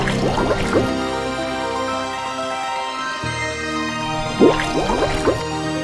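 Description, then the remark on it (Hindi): Two short bursts of splashing, bubbling water, one at the start and one near the end, as the god Varun Dev dives into the water, over a steady, sustained musical drone with no voices. “यह कहकर वरुण देव ने पानी में डुबकी लगाई।”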